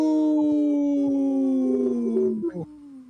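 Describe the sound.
A person howls like a wolf: one long, loud howl that holds steady and slowly slides down in pitch before wavering and trailing off at the end.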